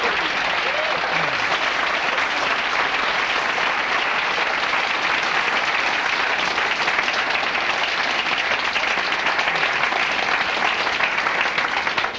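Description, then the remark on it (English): An audience claps steadily after a talk on foreplay, a dense, continuous wash of many hands that stays fairly loud and even for the full twelve seconds without fading. “If you appreciate my talk on foreplay, let me know if you're clapping.”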